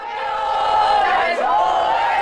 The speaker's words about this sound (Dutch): De vrouwen waren aan het juichen. Het publiek was in extase.